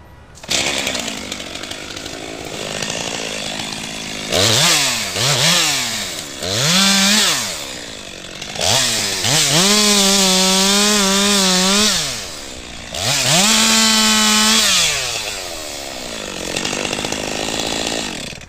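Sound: chainsaws cutting fallen trees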